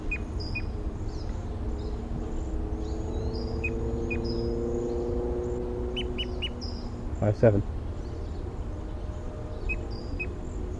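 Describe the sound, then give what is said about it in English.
Birds call throughout: scattered short, high-pitched chirps and whistles over a steady low rumble, with a louder pair of sharp, harsh calls about two-thirds of the way through. “Bird 5-7.”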